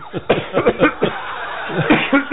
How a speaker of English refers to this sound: Yeah, he's coughing over there. And here he comes.